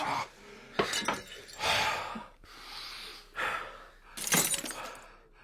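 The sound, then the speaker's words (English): A heavy chair is thrown into a big glass mirror behind a bar: several loud, bright crashing bursts of shattering glass and clattering debris come in quick succession over a few seconds, with no talking. “What happens when you throw a heavy chair at a mirror? And now I know. The glass breaks.”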